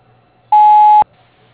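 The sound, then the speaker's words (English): A single steady electronic voicemail beep on a phone line after the answering greeting, a pure high-pitched tone held for about half a second and then cut off abruptly, with quiet line hiss before and after. “Can't come to the phone right now. Please leave a message.”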